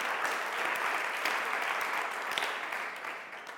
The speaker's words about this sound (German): Also ich denke, wir geben auch diesen beiden einen Applaus, Anschub für diese Visionen.